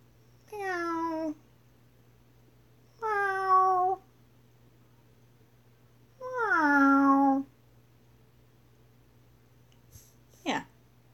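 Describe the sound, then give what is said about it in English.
A cat meows three times in close, clear succession, each call sliding downward, the third longer and more of a drawn-out yowl, followed by a brief sharp click over a low steady hum. “Cats, they meow. Sometimes they yowl.”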